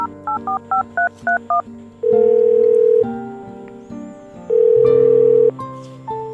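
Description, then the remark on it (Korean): Seven quick touch-tone beeps ring out as a phone number is dialed, followed by two longer, louder steady tones, with soft music playing underneath. “난 닉에게 전화를 걸었다.”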